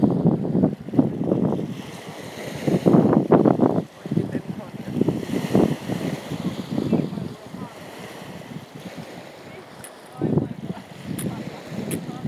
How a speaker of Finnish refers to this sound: Ja tässä kuullaan sitten, ollaan tässä rannalla, niin kuuluu Itämeren aaltoja.